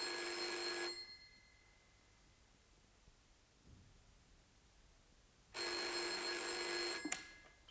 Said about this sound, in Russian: Девушка-секретарша, взвинченная царящим вокруг бедламом, нервно отвечает на телефонные звонки.